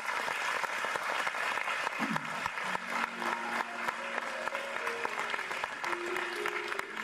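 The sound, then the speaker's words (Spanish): A crowd applauds steadily throughout for those who are always working, dense clapping, while faint sustained musical tones, like an organ or keyboard, rise underneath partway through. “Y quiero darle un aplauso a todos aquellos que como hormigas están siempre trabajando.”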